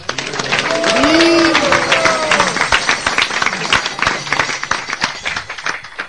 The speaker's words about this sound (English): Give a big applause